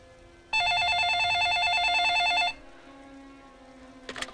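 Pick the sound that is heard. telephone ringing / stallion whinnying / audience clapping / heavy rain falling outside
telephone ringing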